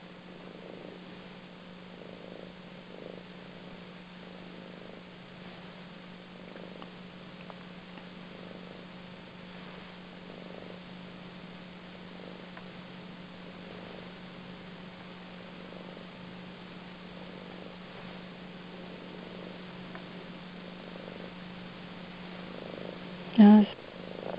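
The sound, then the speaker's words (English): A cat purrs steadily while sitting on a person's knee, a low continuous rumble with a gentle rhythmic pulse, ending with a brief louder bump. “my cat's just jumped on my knee and is purring, and it's sort of saying it needs that.”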